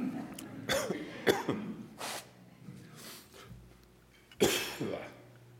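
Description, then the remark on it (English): Several harsh coughs come in uneven bursts, with a sharp intake of breath between them and a final loud cough near the end, no speech around them. “That was not an intended cough after the line, feel your chill.”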